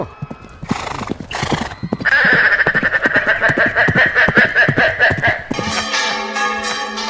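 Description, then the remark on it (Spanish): Several horses gallop aimlessly through the street with rapid, loud clip-clopping hooves on pavement, joined by shrill neighing and whinnying, before the bells of the Giralda begin ringing at the end. “Varios caballos corren sin dirección por la calle.”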